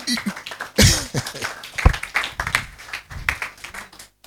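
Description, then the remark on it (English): A church audience claps together in a dense, uneven burst of hand claps, fairly loud, with a few stronger slaps standing out and voices mixed into the clatter. “You can clap.”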